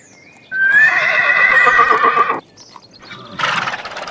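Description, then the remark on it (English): A small white horse on a farm neighs loudly on a sunny day in one long, quavering whinny, followed after a brief pause by a shorter, rougher snort-like neigh. “I can see a white horse. Look, it's a small horse.”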